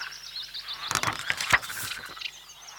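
Frogs croak in a burst of rough, pulsing calls near a lake, layered over a steady chorus of high chirps and outdoor ambience, with no one speaking.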